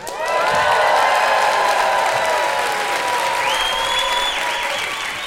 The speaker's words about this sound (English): So please make sure to cheer very loudly for Wendy Zukerman and Joel Werner.